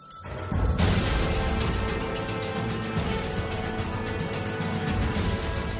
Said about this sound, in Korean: 갑자기 총소리가 들렸습니다.